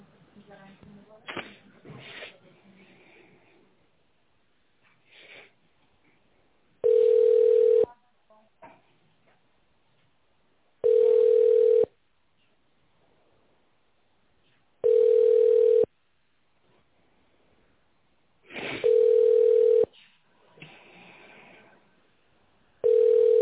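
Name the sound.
telephone ringback tone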